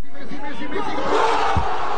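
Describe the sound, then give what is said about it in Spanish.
Thousands of Argentine football fans gathered before a giant screen in Buenos Aires roar and cheer a goal as their national team qualifies for the World Cup final, a loud, sustained wall of overlapping shouting voices that swells slightly toward the end, with one brief low thump. “y frente a la pantalla gigante y reunidos por miles, los gritos de gol de los argentinos se escuchaban por todas partes.”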